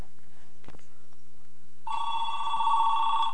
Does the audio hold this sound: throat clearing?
no